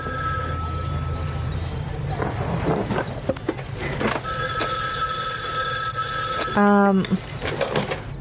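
An old-fashioned telephone bell rings insistently, its bright metallic trill standing out over a busy, rumbling background with a few scattered knocks and clatters.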